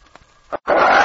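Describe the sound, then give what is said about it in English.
A wounded wolf-dog, shot in the leg and weak from loss of blood, lets out a harsh, loud growl under spruce trees, rising suddenly after a brief quiet moment of faint rustling and a short grunt. “Look at his wolf! Not all wolf. He's part dog.”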